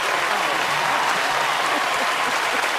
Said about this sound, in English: Vicki Lawrence walks on stage. Carol applauds. Vince Gilligan leads a standing ovation from the audience.